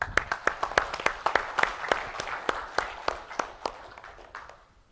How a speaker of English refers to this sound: So give them applause for me.